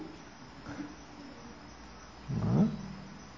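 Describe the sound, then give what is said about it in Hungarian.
Faint chirping of two crickets, with a brief soft chirp early on and a louder burst of cricket-like trilling around the middle. “Most még csak kettő ciripel benne, de az egész tücsök zenekar rázendít, akkor végünk lesz.”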